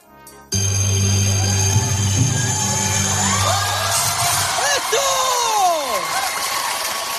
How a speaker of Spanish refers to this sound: Era una actuación en California en febrero de 2019. Los gritos y aplausos del público lo dicen todo.